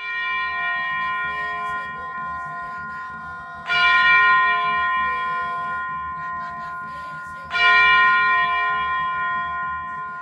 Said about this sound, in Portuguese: Em Mazagão, não é diferente. Às 4 horas da manhã, o sino toca para iniciar a novena.